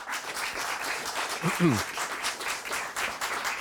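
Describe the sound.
An audience applauds steadily, a dense wash of many hands clapping at an even loudness throughout, with a brief low voice sound rising through it partway in.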